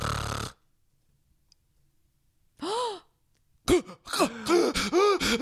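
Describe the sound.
A voice imitates the heavy snoring of a man who stops breathing in his sleep: a long pause, one rasping snore, then a rapid burst of loud, choking snorts and gasps for air, harsh.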